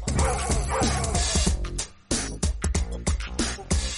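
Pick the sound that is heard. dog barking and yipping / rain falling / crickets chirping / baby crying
dog barking and yipping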